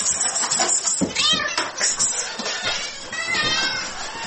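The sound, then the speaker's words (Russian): A domestic cat meows several times in close succession, loudly, its drawn-out cries rising and falling over a busy indoor background with some voices. “Но то ли дело кошка.”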